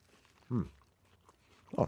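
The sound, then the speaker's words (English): Mouth sounds of two people chewing warm food with papaya chutney during a radio broadcast, quiet and wet, broken by two brief voiced murmurs or hums; no clear talk, just eating noises. “Silence on the radio while we both chew.”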